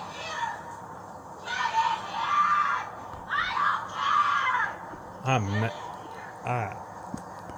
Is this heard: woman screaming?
yes